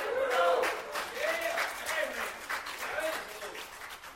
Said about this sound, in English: Clap for me, clap for Jesus.